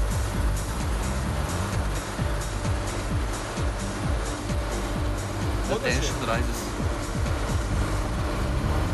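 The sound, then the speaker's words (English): A police car approaches with a steady engine rumble, and a brief wavering siren-like whoop rises near the end. Voices talk over it throughout. “The police car approaches.”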